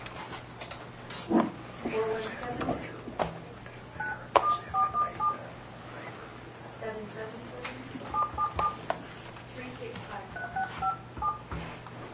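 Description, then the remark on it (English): A series of short telephone keypad tones beeps out in quick bursts as a woman's phone number is dialed to call her, with a low background hum and some faint movement noise in between. “And do we have a phone number for her?”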